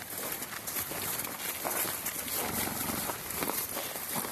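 Horses descended from the wild Tarpan horse walk through soft, wet ground in WWF-owned wetlands at Markegg, Austria, their hoof steps mixing into a steady rustling and squelching with no clear rhythm. No one speaks.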